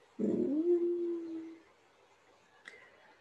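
A person lets out one long, drawn-out whimper, a steady whining tone at a low-mid pitch that lasts over a second before fading into quiet, with a faint click just before the end.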